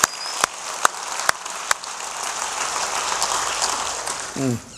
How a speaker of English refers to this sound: Let's give them one round of applause. Happy Mother's Day.